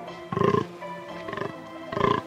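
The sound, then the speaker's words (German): Deer bellowing: three rough, pulsing bellows in quick succession, the middle one softer, with no voices or other sounds around them. “Und weil sie die Geschichten der Wölfe so unglaubwürdig fanden, fingen die Hirsche an, laut zu lachen.”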